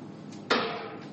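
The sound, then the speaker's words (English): A chair topples over with one sudden, sharp crash that rings out briefly before fading, set against a quiet background hum with no one speaking. “That's okay. We didn't need that chair.”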